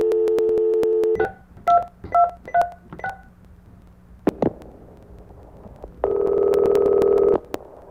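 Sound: touch-tone phone dialing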